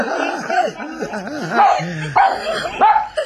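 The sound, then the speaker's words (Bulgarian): A small dog vocalizes in a continuous run of high, wavering yips and whiny barks, pitch sliding up and down, with several sharper bursts toward the end. “Ето какъв очарователен лай.”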